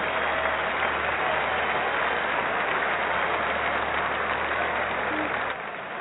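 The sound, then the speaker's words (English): Steady, dense applause from a crowd giving a standing ovation, a continuous wash of clapping that holds at an even level for several seconds before dropping off slightly at the end. “Standing ovation. Did you hear that?”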